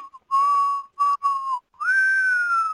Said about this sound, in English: And he said, I had a slide whistle. Slide whistle is a whistle with a slide in it, and you can do. Yeah. Mm-hmm. And he took the slide, did it in a box of handkerchiefs, mm-hmm. and he used a cloth hanger.